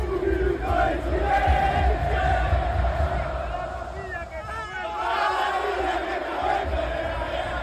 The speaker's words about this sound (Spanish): Al acabar el partido, los futbolistas de Argentina cantaban en el césped, lo vais a escuchar, un minuto de silencio para Rafinha, que está muerto. Lo arrancaba Otamendi.